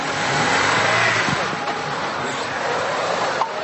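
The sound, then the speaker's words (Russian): An off-road car engine revs hard and roars steadily and loudly, its pitch rising as it accelerates away at a race start, with a broad rush of noise throughout; an off-road stage of the Russian sports tourism championship near Orenburg, over a 1.5-kilometre course through bogs and ravines. “Болоты и овраги на автомобилях успешно преодолевали даже женщины.”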